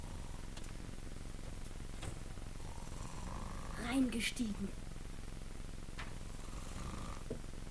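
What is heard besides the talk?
man snoring in bed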